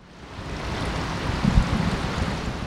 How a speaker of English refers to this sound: Water flows into a concrete tank where 18-month-old brown trout dart back and forth